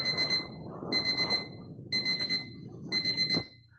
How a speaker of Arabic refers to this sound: صوت منبه.